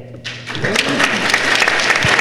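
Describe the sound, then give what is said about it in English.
A crowd breaks into approving applause after a volunteer's Judge Dredd "I am the law" impression, a dense wash of many hands clapping that starts abruptly and holds steady and fairly loud, with a few murmured voices mixed in. “That's approving applause.”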